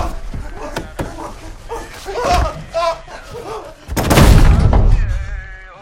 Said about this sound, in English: They follow the path to a house, push open the door, and tumble onto the floor, then slam the door shut behind them.